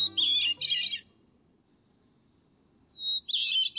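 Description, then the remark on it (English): A hermit thrush sings two clear, high warbling phrases separated by a few seconds of near silence, the song bright against a quiet background, from atop a tapered evergreen in cool western mountain forests of the north. “High in the western mountains and forests of the north, where even the long summer days stay cool, a beautiful song echoes.”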